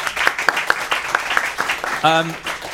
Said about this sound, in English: NFC has won. Let's give a round of applause to Mr. NFC.